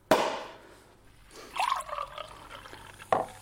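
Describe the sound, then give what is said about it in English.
Sparkling wine pours into a glass, starting with a bright splashy gush that settles into a fizzing, gurgling trickle, then a short final splash near the end. No voices. “Thank God for this nice drop of fizz.”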